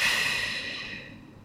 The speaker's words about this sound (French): Prenez maintenant une profonde inspiration par le nez, puis soufflez énergiquement par la bouche.